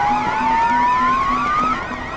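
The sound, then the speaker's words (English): An electronic proximity alarm from an app on a phone beeps in a rapid, steady rhythm, layered with a slowly rising tone and a warbling, siren-like whine. It is fairly loud, with no one speaking. “Well, those are the proximity alarms I set up in my app.”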